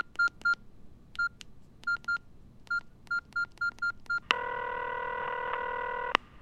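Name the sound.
telephone number being dialed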